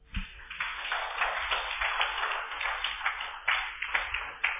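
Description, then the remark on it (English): An audience claps together, a dense, steady patter of many hands filling the room for several seconds with no voices on top. “I thought you clap.”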